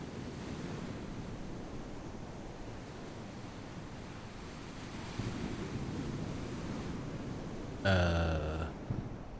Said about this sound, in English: The ocean's rising. When did it get that high? I think it's rushing in.